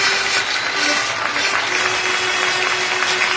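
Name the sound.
applause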